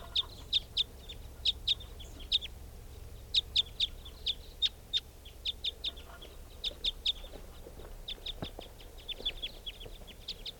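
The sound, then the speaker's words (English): Sharp, high chip notes from two type 5 birds, coming back or flying over, repeat in quick bursts throughout, clear above a low steady rumble, with no voices. “Well, the recording sounds like the type 5s are coming back, or else it's flying over. Two type 5 birds.”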